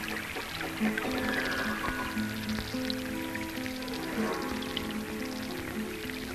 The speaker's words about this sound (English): I guess like you imagine, if you're in a rainforest and all of a sudden it starts raining and you hear the droplets hitting the leaves and everything around you.